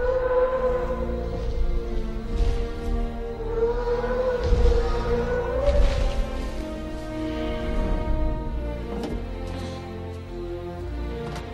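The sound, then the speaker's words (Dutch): Deep, drawn-out Brachiosaurus calls from the film Jurassic Park, loud, with slowly sliding, whale-like moaning tones layered over a low rumble, continuing for the whole stretch without any talking. “Het zijn een soort walvisachtige geluiden.”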